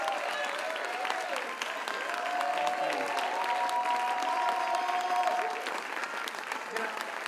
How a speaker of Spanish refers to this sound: Que se escuche fuerte ese aplauso, porque representa lo que muchos artistas en este país hacen por lograr su sueño realidad.